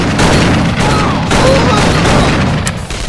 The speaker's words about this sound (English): The cannon wasn't far, but with Nazis firing with everything they had, it seemed like a million miles off.